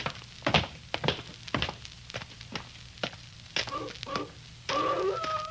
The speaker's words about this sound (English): Huh? What's that? Sounds like a wolf. That ain't what the wolves sound like down in California. You're thinking of the Hollywood kind. This is the real McCoy. When you hear a dog howl like that, they say he's sitting on somebody's grave.